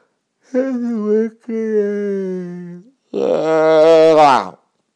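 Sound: yawn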